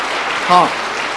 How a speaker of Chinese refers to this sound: 今天下午要受敬的兄弟姐妹，请站起来，我们向上鼓掌，感谢主。